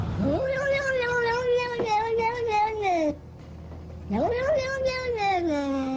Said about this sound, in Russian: Ну, это кот.